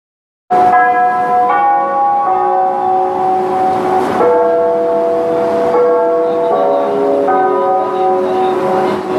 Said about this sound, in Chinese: 12点整，位于北京中轴线上的北京火车站上空，准时响起了人们耳熟能详的东方红乐曲和那清脆的钟声